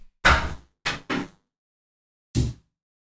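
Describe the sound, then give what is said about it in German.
Four heavy knocks on a door by a tradesman working in the house, in an uneven pattern, the first alone, then two close together, and a final one after a pause. Each is loud and boomy, with no voices. “Wir müssen gerade einen Cut machen, der Handwerker klopft.”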